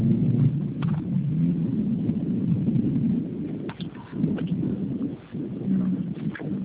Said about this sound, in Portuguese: tô no trânsito, o sinal já tá abrindo, eu já encosto, a gente conversa. Ah, então pode ser. Dá só um minutinho que eu vou encostar, que tá melhor, peraí.